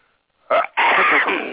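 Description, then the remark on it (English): A single loud sneeze comes out of near silence: a short sharp intake, a brief pause, then a forceful, breathy burst that trails off. No one is talking. “I'm trying not to sneeze, but”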